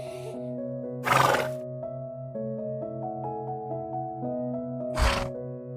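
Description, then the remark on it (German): A horse gives two short, breathy snorts, a few seconds apart, heard against a steady, soft background of sustained musical tones. “Immer das Lachen der anderen Feen und das Wiehern und Prusten der Einhörner im Ohr.”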